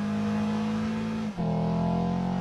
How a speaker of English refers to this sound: Now switch to sport mode. It offers quicker response and more agility. It also enhances the natural sound of the engine.